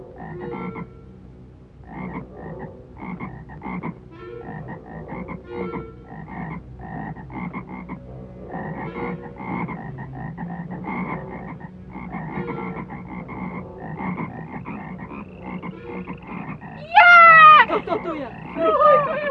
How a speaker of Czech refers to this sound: A tak podle Jehovova slova Áron vztáhl svou ruku nad vody Egypta a žáby počaly vylézat a pokrývat egyptskou zemi.